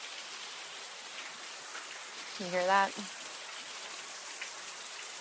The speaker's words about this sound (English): You're outside. And it is really raining. Wow. My lawn is muddy. Very muddy. And it's kind of chilly.